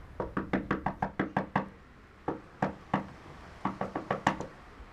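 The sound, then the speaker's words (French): Knocking on a neighbour's door next to Elie Simoun's home in the Val d'Oise: a quick run of about eight raps, a pause, three slower knocks, then another brisk burst of five or six. Fairly sharp, with no voices. “Le voisin ne répond pas. Nous allons passer à la porte d'à côté.”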